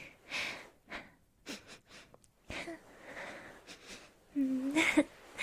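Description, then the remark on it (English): Breathy sniffing at a person's neck in several short, sharp inhales spaced irregularly, with soft snort-like breaths between them and a brief voiced murmur near the end. “Sorry, you don't mind if I, like, sniff your neck, hopefully.”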